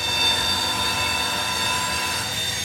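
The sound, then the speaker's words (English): A freight train over a mile long, with locomotives at front and back and more than 100 black crude oil tankers, rumbles steadily past through the Seattle suburbs toward a refinery, with a continuous low roar of rolling wheels and faint metallic ringing tones above it, no voices present. “Millions of gallons of crude oil move around the country every day on trains like this one.”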